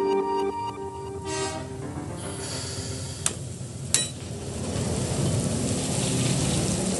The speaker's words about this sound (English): The coal pouring out of this rail car had a five-day journey across the country. We're at the power plant for Michigan State University in East Lansing, Michigan. This coal arrives by train and by truck in the thousands of tons